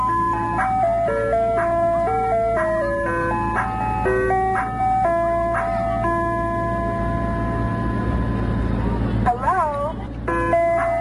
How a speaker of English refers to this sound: kind of just like to play this ice cream truck all night. I'm sure you can figure out a really quick and easy dance for this, can't you? Go ahead, work on it. Are you dancing?